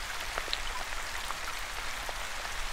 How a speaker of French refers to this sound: Notez comme la pluie fait ressortir l'odeur des choses.